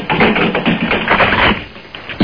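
A refrigerator in Bakersfield with a phone placed inside is shaken and its door banged, giving a dense, continuous clatter of knocks and jiggling contents for about two seconds, ending in a louder thump as the door slams shut. No voices.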